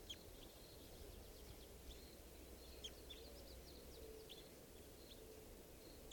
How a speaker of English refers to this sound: Just recorded that bird. She'll be JGG459. Red Crossbill 557.